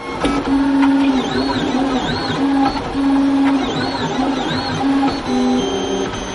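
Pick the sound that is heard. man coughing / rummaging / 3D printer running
3D printer running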